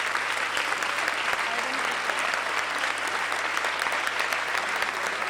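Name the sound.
crowd applause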